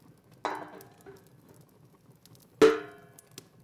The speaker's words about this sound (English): Darling, that sounded like one of my pots. You're not making me soup, right?